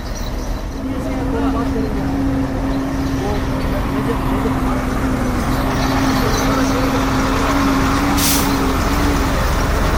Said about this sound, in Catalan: Això és un camió, eh? Això és indubtable que és un camió.